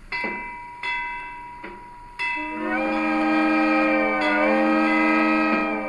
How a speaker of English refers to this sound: It's called the Wilmington and Western Railroad, just one of a few historic train networks preserved across the country. And it's run almost solely by dedicated volunteers who've stuck with the railroad for decades.